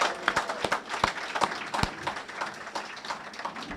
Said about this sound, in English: Thank you, Tony. That was simply amazing. Let's all give Tony another round of applause.